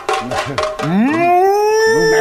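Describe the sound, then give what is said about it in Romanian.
A person briefly speaks, then lets out a long, drawn-out vocal bleat imitating a sheep, rising in pitch and held loudly until the end. “Dumneata o să faci pe oaia. Pe oaia. Știi, să behăi.”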